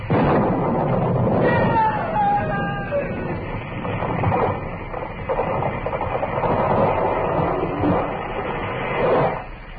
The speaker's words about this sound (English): It was lightning. Struck the tree.